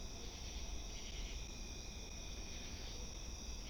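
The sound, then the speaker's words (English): A steady chorus of crickets and other assorted insects trills continuously outside on a back porch at almost 1 a.m. on August 31st, late summer, a dense high-pitched drone with faint low rumble beneath, no voices. “Otherwise known as crickets and other assorted insects.”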